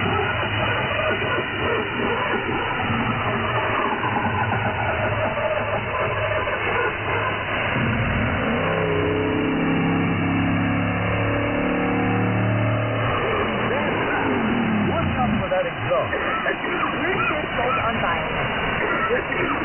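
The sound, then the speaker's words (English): A diesel engine unit runs its cleaning cycle, steady and loud for about twenty seconds, its drone rising and falling through a few stepped revs midway before settling back into a rough, continuous rumble. “Please remember, the diesel engine will produce a small amount of smoke and dust during the cleaning process.”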